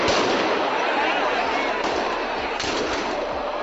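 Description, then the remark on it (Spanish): A loud, dense roar of a cheering crowd fills the whole stretch, with a few sharp shotgun blasts cracking through it at irregular moments near the end, at the Encamisá 2023 festival in Torrejoncillo on Thursday 7 December, evening, where 120 shotgunners and about 150 riders covered in white sheets accompany the banner of the Immaculate. “Allí se van a dar cita 120 escopeteros y unos 150 jinetes cubiertos con sábanas blancas para acompañar al estandarte de la Inmaculada en la víspera de su celebración.”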